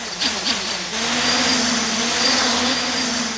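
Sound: drone flying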